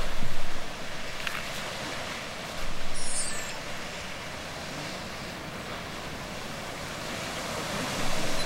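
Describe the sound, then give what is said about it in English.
Old Faithful geyser in Yellowstone National Park erupts with a steady, roaring hiss of rushing water and steam, swelling in a few brief surges. There is no talking, and a faint high chirp sounds once. “I think we're going to go see what's cooking with Old Faithful. What do we got here?”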